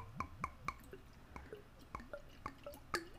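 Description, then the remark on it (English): Burdock root tonic being poured into a glass, heard as a quick series of irregular glugging plops with bright, ringing bubble tones. There is no talking. “Y'all hear it pouring myself. A fresh glass of burdock root tonic.”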